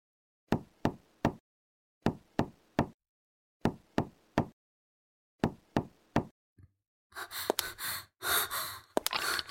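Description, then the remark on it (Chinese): Four rounds of three sharp, firm knocks on the door of a home, loud, with short pauses between. Heavy, ragged breathing and gasps follow. “你怎么可能会知道我家的住址？我不会给你开门的，你知道你这样已经犯法了吗？”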